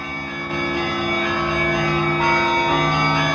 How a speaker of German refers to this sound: Aber vor allem diese besondere Atmosphäre hier, hör mal die Glocken der großen russisch-orthodoxen Kirche.